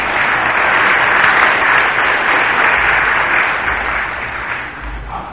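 A crowd applauds steadily for about five seconds, a dense, even wash of clapping that holds at a constant level before tapering slightly at the end, with no voices heard.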